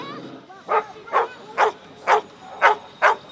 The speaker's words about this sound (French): Voilà, donc là vous voyez le premier chien qui désigne une émanation d'odeur humaine. Donc le chien ne recherche pas une personne en particulier, il va désigner n'importe quelle odeur humaine.